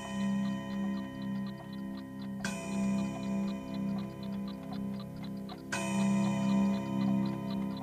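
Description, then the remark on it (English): A handmade clock chimes with bright, ringing tones, two strikes spaced a few seconds apart, while a steady tick-tock runs underneath, clear with no voices. “Yes, listen to it chime.”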